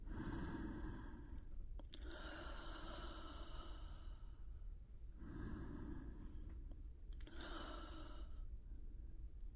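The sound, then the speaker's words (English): Slow, deep breaths drawn in through the nose and released through the mouth, a few long cycles in a steady rhythm with no talking. “Breathing in through the nose, breathing out through the mouth.”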